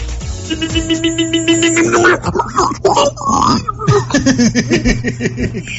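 Four pigs grunt and squeal as a Kombi van runs them over, a loud, frantic burst of repeated cries over a steady low engine-like drone, the squeals rising to a shrill peak midway before breaking into choppy grunts.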